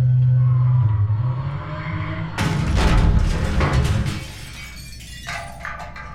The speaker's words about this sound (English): I'm sure it was just a minor crash. Wow, that was a major crash.